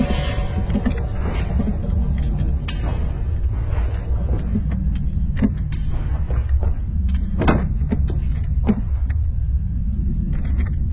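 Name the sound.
car door being opened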